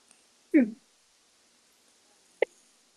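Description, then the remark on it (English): A single loud, abrupt sneeze bursts out during a meeting against a quiet background, followed a couple of seconds later by a short, softer click-like sound. “Bless you”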